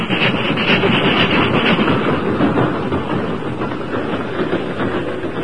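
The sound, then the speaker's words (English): A train rumbles steadily along the tracks as its engine crests Jackknife Hill heading westward, a loud, dense roar of wheels and rolling stock with a faint rhythmic clatter, sustained throughout with no voices. “The engine reached the crest of Jackknife Hill and continued westward without incident.”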